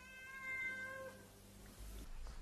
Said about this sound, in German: Das da, ja, das höre ich schon lange. Dummes Gemaunze. Wie kannst du dir nur denken, dass das von mir kommt? Noch nie in meinem Leben habe ich gemiaut.